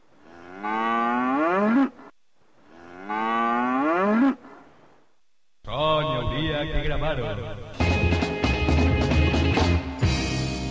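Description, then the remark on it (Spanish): Two loud, drawn-out cow moos, each about two seconds with a short pause between, in a comedy segment called 'Saw de Vaca', followed by a dense burst of music and other overlapping sounds. “Escuela Infantil de Mafiosos patrocina el Saw de Vaca.”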